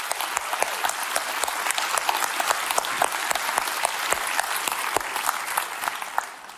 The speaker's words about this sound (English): Can we just give a cheer for all of our police officers and fire department?